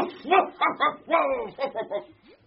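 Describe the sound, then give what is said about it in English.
A giant Pyrenean mountain dog gives a quick run of about eight moderately loud barks and yelps that slide into whimpering whines, heard alone with no talking. “A giant Pyrenean mountain dog!”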